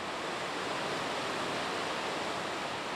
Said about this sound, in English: You're hearing water rushing over the Maple River Dam, which holds back nearly 43 acres of water in Lake Kathleen. The dam is about 18 feet high and in rough shape.